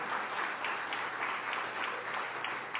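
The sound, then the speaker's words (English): An audience claps steadily, a dense wash of many hands applauding at an even level with no talking over it. “Y'all definitely should clap for that.”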